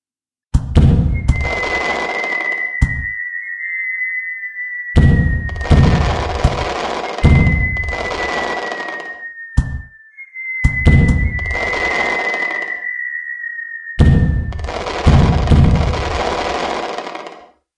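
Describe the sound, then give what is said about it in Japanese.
Fireworks launched from a riverbank shoot upward with long rising whistles, each followed by loud booming bursts and crackling, repeating several times in quick succession with no voices present. “それと同時に河川敷の方から花火が上がった。”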